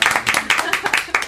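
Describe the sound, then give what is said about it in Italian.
A brief burst of audience applause, many hands clapping in a dense, steady patter at moderate loudness, with no talk over it. “Un applauso.”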